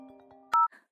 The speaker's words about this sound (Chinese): 嗯，是小天的电话。